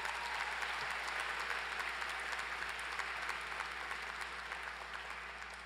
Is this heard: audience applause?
yes